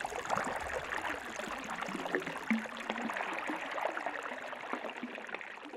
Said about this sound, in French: Oh, de l'eau !